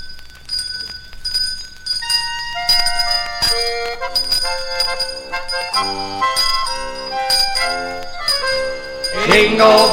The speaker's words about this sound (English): here's … and …